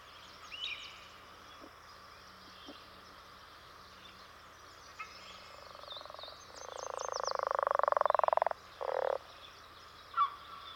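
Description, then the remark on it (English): A leopard frog gives its deep territorial song, a long, rattling snore-like croak that swells louder over about two seconds, then a short second burst, with faint chirps and calls in the background. “It identifies its territory with this deep song, just like the birds do.”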